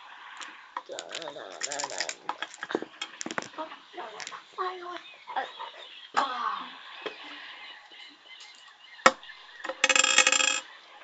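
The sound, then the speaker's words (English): Two ten-sided percentile dice clatter and tumble across a table in a scatter of sharp clicks, ending with a louder rattling burst near the end, with faint voices murmuring in the background. “Roll percentile dice. You're looking for a low number.”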